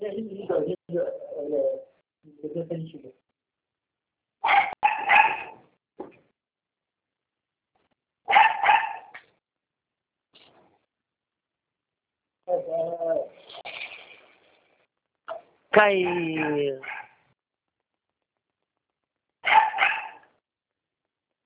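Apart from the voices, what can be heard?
dog barking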